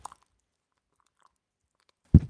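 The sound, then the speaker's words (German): Wet plaster squelches as it is stirred with water into a paste: a couple of soft smacking sounds at first, a quiet pause, then one louder, thick squelch near the end. “Man hört es vielleicht schmatzen.”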